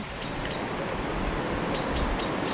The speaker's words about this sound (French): J'entends les oiseaux. Je sais pas très bien identifier ce que c'est comme oiseau.